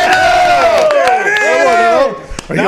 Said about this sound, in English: Oh, I did. Clapped and I cheered. He did. He did clap and cheer.